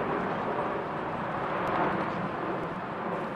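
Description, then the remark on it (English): A steady, broad roar of an airplane passing overhead above Beacon Hill in Seattle, loud and continuous throughout with no break, like jet or engine noise washing over the scene. “I get distracted with the airplane, I'm sorry.”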